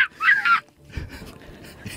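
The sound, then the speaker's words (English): A person mimics a bird call, said to sound like a seagull, with a harsh, nasal, high-pitched squawk lasting about half a second, followed by quieter, muffled voices and rustling. “God, okay, bird calls are difficult, guys.”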